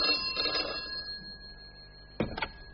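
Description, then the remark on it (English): An old-style telephone bell rings with a steady, metallic jangle, then stops, followed by two short clattering knocks like a receiver being picked up. “In 1906, he invented the world's first telephone.”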